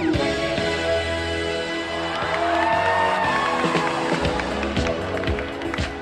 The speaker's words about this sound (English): the crowd, normally known for shushing people, gets loud. Really loud.